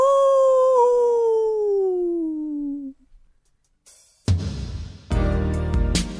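A single long, eerie werewolf-style howl glides slowly downward in pitch for about three seconds, then fades into brief quiet before loud, rough crashing bursts of noise take over.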